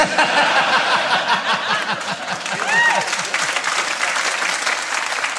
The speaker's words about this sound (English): You'll notice that only half of them were clapping for that.